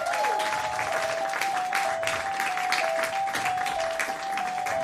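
A crowd applauds steadily, a dense wash of clapping that stays loud and even from start to finish, with a faint sustained tone running beneath it.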